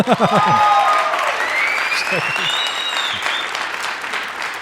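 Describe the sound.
Audience applause, a dense steady clatter of many hands clapping, with loud whistles and cheers rising over it and a few voiced shouts at the start.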